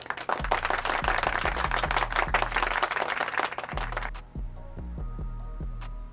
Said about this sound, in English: Reeves going to get a round of applause.